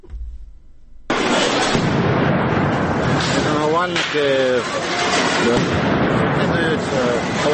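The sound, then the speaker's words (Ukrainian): A sudden loud blast as a grenade thrown by police explodes among protesters on Instytutska Street in Kyiv, Ukraine, after a quieter moment, giving way to a sustained, harsh roar of chaotic crowd noise with shouting voices and a brief spoken word. “а міліція викидає в них гранати, які вибухають ногами вальників.”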